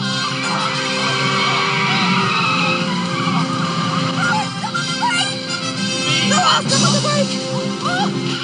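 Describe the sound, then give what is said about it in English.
A car in a film scene, with three people driving it, skids with sustained screeching tire squeals over a roaring engine, loud for several seconds, while voices shout faintly beneath the noise. “Three people are driving the car.”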